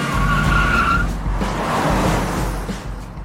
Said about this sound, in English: Tyson spins the car 180 degrees.